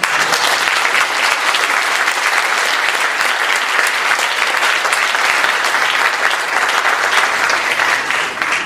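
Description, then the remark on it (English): A crowd applauds steadily and loudly after a speaker's talk on the New Testament, a dense, continuous patter of many hands clapping that holds level for several seconds without any voices standing out. “And then you clap, but you don't, you're letting yourself be pushed over and not paying attention to the evidence that was presented.”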